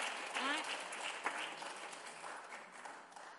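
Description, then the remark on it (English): An audience applauds with a steady, dense wash of clapping that holds at an even level throughout, while a voice briefly calls out over the noise near the start. “Yes, everybody clap.”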